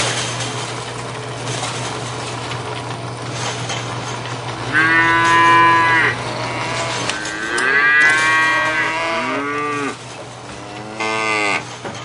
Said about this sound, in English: Oh, look at the cute cows.